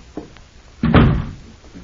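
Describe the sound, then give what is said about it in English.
A door is opened and closed: a couple of faint clicks, then a single heavy thud as it swings shut, with a low rumble trailing off. No voices. “Oh, here, let me open the door.”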